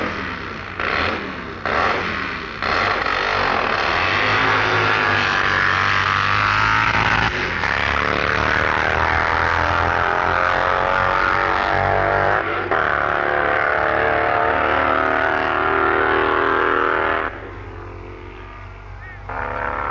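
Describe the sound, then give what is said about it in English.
A supercharged Vincent V-twin drag racing motorcycle of the 750 to 1500cc class roars loudly, its engine revving in repeated rising surges before settling into a sustained, harsh drone that eases slightly near the end. “several machines using the big V-twin Vincent engine, a typical example being Ian Ashwell's supercharged Satan”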